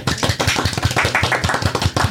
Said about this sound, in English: A little applause, please.